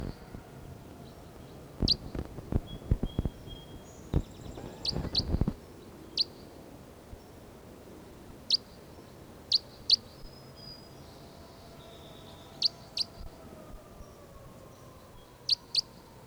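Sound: bird chirping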